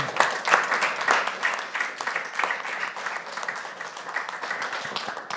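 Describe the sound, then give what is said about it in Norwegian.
An audience applauds steadily, with dense overlapping claps that start strong and taper slightly over about five seconds, with no voices over them. “Etterpå, jeg sitter og kan klappe nå.”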